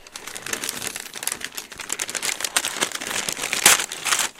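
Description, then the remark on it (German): Paper crinkles and rustles continuously as a nicely wrapped gift with a bow, a small white children's suitcase about 30 centimetres in size, is unwrapped, with dense crackling bursts and a brief sharp tear near the end. No one speaks. “Ja, und Sie dürfen sogar auspacken, wenn Sie möchten.”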